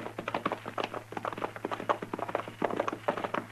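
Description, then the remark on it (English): Horses' hooves clop along in a steady, busy rhythm, many overlapping hoofbeats from a couple of horses being ridden in the dark at night, with no voices over them. “Now, let's get these horses hobbled.”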